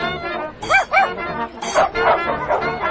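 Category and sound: animal, dogs barking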